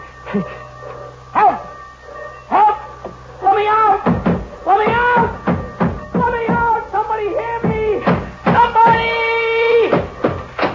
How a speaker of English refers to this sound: Anyways, I gotta get out. I'll yell and I'll pound on the door. Yeah, that's the way.